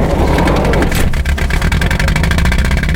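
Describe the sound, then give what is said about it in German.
A van engine rumbles steadily, then its rhythmic chug sharpens after a moment as the vehicle pulls away, loud and continuous with no voices. “Alle rein ins Auto.”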